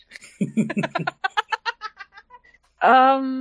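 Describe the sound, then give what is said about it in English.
A talking bird mimics human speech, repeating words it has heard as if asking about a head injury, in a quick run of garbled, voice-like syllables that grow softer, followed after a short pause by a loud, drawn-out squawking call. “Pardon me, but why is your bird friend over here repeatedly asking if I have a head injury?”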